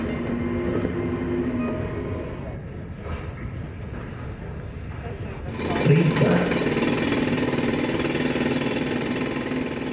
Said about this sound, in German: Auf dem linken Monitor sind ein paar Bauarbeiter dran, einen Tunnel zu bohren.